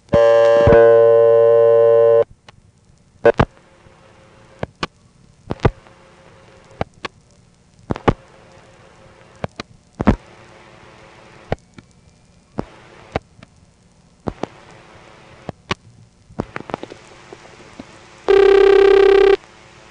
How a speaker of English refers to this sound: The first one I'll feature here is Dayton, Virginia. Let's pick up the phone and dial a local supervision test.